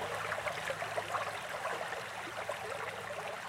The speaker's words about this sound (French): Alors du coup, là, on est au bord d'une petite rivière. Et c'est quoi comme rivière ? Eh bien, c'est la rivière de l'Yonne qui prend sa source à quelques centaines de mètres d'ici, qui se jette après dans la Seine.